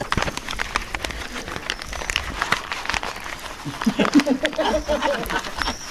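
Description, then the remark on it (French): A sheet of newspaper is held against a person's chest and crumpled right by the microphone, giving six seconds of dense, sharp crackles and crinkles that swell louder toward the end, where a voice briefly murmurs underneath. “Ils prennent un papier journal et puis ils... Le met sur son thorax et il le froisse.”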